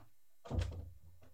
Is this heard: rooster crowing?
no